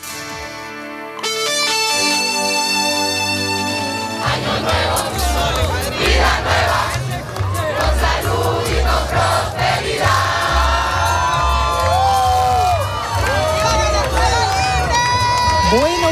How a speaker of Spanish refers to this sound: Pues esto era el sonido ayer en Madrid, en la Puerta del Sol, donde miles de venezolanos se dieron cita para celebrar la caída de Nicolás Maduro.